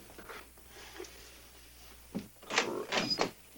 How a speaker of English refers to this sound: Now you go answer the little door, huh?